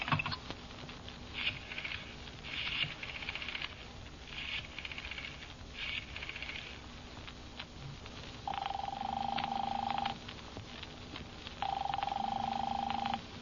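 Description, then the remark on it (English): The telephone number 4087 being dialed: several short whirring bursts in quick succession, followed by two long, steady ringing tones heard through the handset, moderately loud, with no talking. “Give me the phone. Now, let's see. What's his number?”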